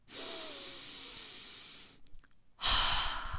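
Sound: deep breathing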